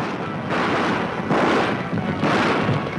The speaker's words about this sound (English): That sound from the 1933 remake of the original 1925 The Thundering Herd, which was a silent film and which unfortunately has been lost to time. But whatever movie they were making, the filmmakers needed a thundering herd.